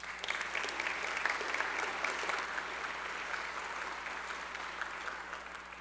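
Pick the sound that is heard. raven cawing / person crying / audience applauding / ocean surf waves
audience applauding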